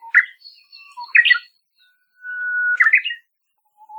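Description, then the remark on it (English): A uguisu songbird sings alone, the first of its two main song types: a long, steady mid-pitched introductory whistle that ends in a quick, bright flourish, with sharp chirped phrases before it. Loud and clear against silence. “they're really hard to see, but it's their loud, very distinctive song that gives them away.”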